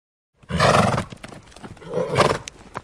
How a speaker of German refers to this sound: Unser Pferd.